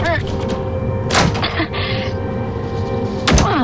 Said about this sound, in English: Door's stuck. Help me push it.